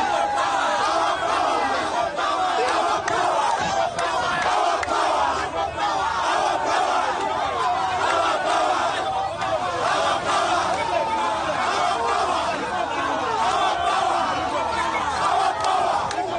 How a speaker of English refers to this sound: Media reports say crowds chanting slogans gathered at the police station holding Chagulani.